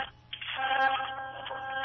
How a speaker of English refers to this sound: I'm hearing lots of tones but no voice.